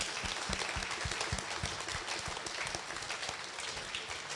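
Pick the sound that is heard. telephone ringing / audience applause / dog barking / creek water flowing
audience applause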